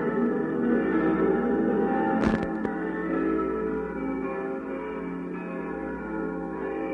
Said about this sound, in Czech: praćena tihom pesmom, provodilčevom pesmom, u skladu sa vučom i zvukom večernjih zvona, što dopiru iz tihe daljine.